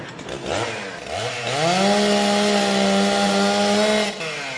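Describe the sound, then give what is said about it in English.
A small outboard motor sputters and revs up over about a second, then holds a steady, buzzing high drone for a few seconds before dropping off. “Outboard motor. Yes, very well-equipped woodpecker.”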